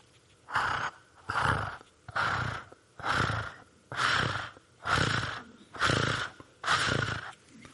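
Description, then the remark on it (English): A voice imitates a strange purr-like snorting rumble heard in the middle of the night, repeated eight times in a steady rhythm of rough, breathy bursts, fairly loud with short pauses between each. “It's kind of like a strange purr.”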